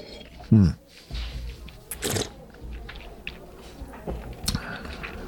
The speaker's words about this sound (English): And then on the palate, let's have a sip.